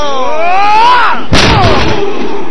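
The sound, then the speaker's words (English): A single loud, sharp chair shot slams down partway through a wrestling match, hitting young Joey Evangelista right after the bell and sending him to the canvas, cutting across a rising, wavering din of crowd noise that carries on after the impact. “Oh, chair shot right off the bat sends young Joey Evangelista down to the canvas like a sack of dirt.”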